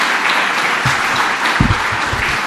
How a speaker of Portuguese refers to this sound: Presidente da mesa de idade diríxese co bastón de mando para facerlle entrega, cousa que sucede neste instante, a Juventino Trigo, entre os aplausos do resto da corporación e tamén do público asistente.